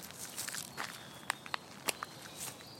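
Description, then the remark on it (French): Very slow footsteps on earth in a forest: a few crisp, unevenly spaced steps with a light crunch, set against the steady, soft rustling hiss of the forest. The sound is fairly quiet, with no voices. “De marcher lentement et de regarder autour de toi.”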